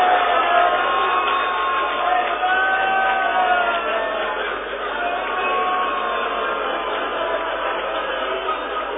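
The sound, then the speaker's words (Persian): A large crowd shouts together for Zaynab and Imam Hussein in a loud, sustained roar of many voices, with rising cries blending into a dense, unbroken wall of sound for the whole stretch. “جانم به با غیرت ها که فریاد می زنن.”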